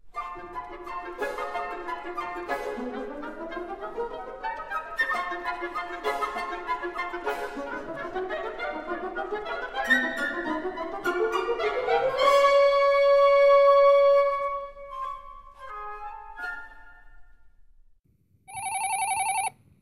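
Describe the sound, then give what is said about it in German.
Lively orchestral music from the orchestral version of Pictures at an Exhibition, the dance of the chicks in their eggshells, with quick, chirping staccato notes and trills climbing upward, settling into a held chord before fading; a short electronic ringing burst follows at the very end. “es gibt ganz unterschiedliche Versionen davon, und besonders farbenreich sind die Bilder einer Ausstellung in der Fassung für Orchester.”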